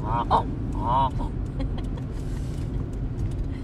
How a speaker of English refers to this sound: Look at them out there. See them? Yep. Let's go up there. Oh, look, there's geese!